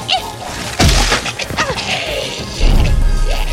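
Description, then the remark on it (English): A heavy smashing impact as the huntress smashes into Mother's face at about 69 miles per hour, landing with a crunching thud, followed by swishing, sweeping noises and a second loud, booming crash near the end. “Like the hurtling hot mess she was, the huntress smashed into Mother's face at a rate of approximately 69 miles per hour.”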